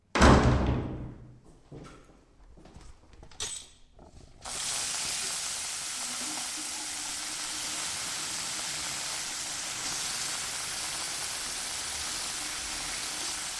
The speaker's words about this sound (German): Also, ich schließe mal die Tür auf.